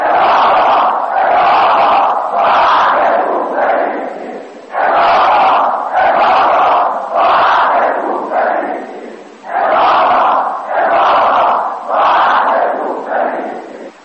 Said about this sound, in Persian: اما حکومت علی امروز پیروز است، زیرا مردم ایران اهل کوفه نیستند و فریاد میزنند اماما اماما ما اهل کوفه نیستیم.